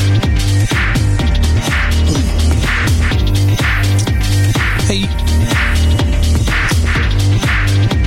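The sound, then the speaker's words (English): Loud music plays continuously with a steady, driving beat and heavy bass, filling the whole stretch with no voices over it. “I wait till the music's off.”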